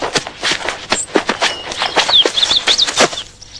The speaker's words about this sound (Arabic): طائر غريب.